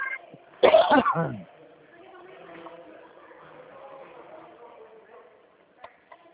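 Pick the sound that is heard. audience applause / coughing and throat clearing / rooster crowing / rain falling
coughing and throat clearing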